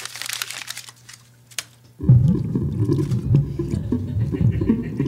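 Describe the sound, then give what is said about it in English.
Crinkling of a ticket gives way to a quick plop as it's tossed into the water of a sound, followed by a muffled, bubbling underwater rumble as it sinks. “Get rid of the ticket. Throw it in the sound.”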